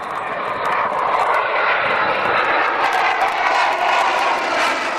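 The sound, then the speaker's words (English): A loud, continuous roar of a military jet fighter, deployed to defend the Olympics, flying overhead, holding steady for the full few seconds with a broad rushing engine noise and no voices. “The government is deploying a vast array of military equipment and personnel to defend the Olympics. Jet fighters, warships, even a nuclear submarine.”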